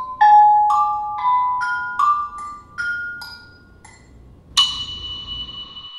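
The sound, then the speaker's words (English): A series of ceramic bells, made from different clays, fired at different temperatures and some glazed, struck one after another, each giving a short, bright ring at a slightly different pitch, ending with a louder, higher clang that sustains briefly. No voices. “So I made different bells out of different clays and fired them at different temperatures, and then glazed some of them and not all of them, and all of these variables affected the sound that the bells were making.”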